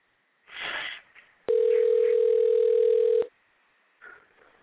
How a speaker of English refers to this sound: All right, I'm dialing the number now.